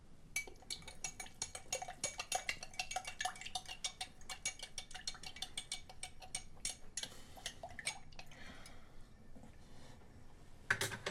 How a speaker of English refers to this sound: He picks up a spoon from the dish rack and stirs the powder in with the water